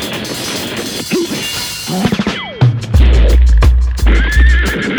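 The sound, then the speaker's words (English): A horse lets out a loud neigh that slides downward, followed by sharp clip-clopping hoofbeats over a deep low rumble. No one speaks. “What in the world is that? The horse style?”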